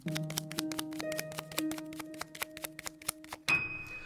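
A deck of poker cards being shuffled by a test subject during a magician's card trick: a steady run of quick, crisp card clicks and taps over a low humming tone, ending in a brief, louder rustling burst.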